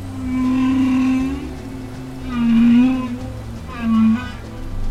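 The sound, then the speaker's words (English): Three low, moaning whale calls, a long one and then two shorter ones, ring out with harmonic overtones above a steady watery hiss and low rumble. “We're trying to decode whale communication to find out not only what they're talking about in terms of, you know, semantics, but also how complex it is,”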